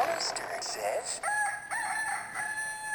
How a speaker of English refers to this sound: The rooster says, cock-a-doodle-doo.